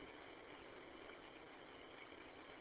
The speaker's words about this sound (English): Different car in the parking lot. Wonder who in the heck that is.